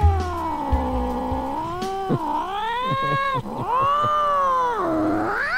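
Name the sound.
cat meowing and yowling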